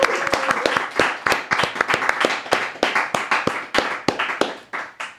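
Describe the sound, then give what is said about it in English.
A short round of applause from a small group: sharp, uneven claps overlapping in a busy, irregular patter, with a brief faint vocal tone near the start. “Around round of applause.”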